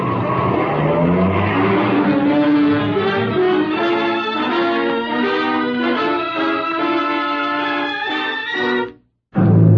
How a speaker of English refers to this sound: We drove down to the beginning of the area I wanted to check, left the car and used our horses for the long ride along the rail bed.